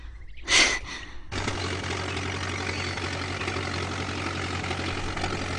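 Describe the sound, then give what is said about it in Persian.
A short hissing burst gives way to a jeep's engine idling steadily, a low rumbling drone with a constant hum that holds evenly to the end, no voices over it. “خب حالا که به خیر گذشت، حداقل جیب هنوز زنده است.”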